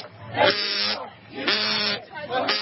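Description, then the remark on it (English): Three buzzy, sputtering fart noises made with the mouth in quick succession by a person being asked why they want Trump impeached, each a loud, rough, bleat-like blast with a wavering pitch, with no other sound between them. “Do you make fart noises with your mouth?”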